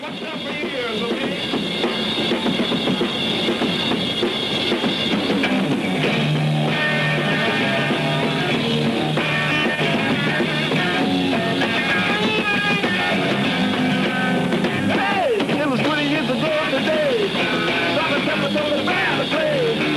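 A loud live rock concert in London led by a distorted electric guitar, with dense sustained chords and bending lead notes over pounding drums and bass, holding a steady, full volume throughout.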